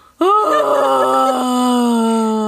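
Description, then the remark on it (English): A person imitates a dying whale's last breath with one loud, drawn-out tonal moan that starts abruptly, holds for over two seconds and sags slightly lower in pitch as it fades. “But anyway, it could be dead and have its last breath and go.”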